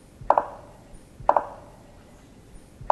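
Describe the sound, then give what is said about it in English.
Sharp double knocks of a Campephilus woodpecker display call, recorded in Central America: two quick wooden raps struck in rapid pairs, repeated about a second apart, with a third pair just starting at the end. Resonant and punchy against faint background hiss. “The ivory bill and its living cousins in Central and South America, the genus Campephalus, all make a distinctive double rap or double knock.”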